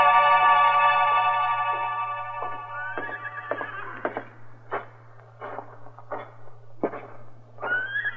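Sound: horse whinnying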